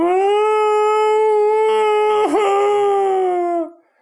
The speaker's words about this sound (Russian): «Гонишь, стало быть!» – тяжело вздохнула она, села на траву и без предупреждения заголосила на одной ноте.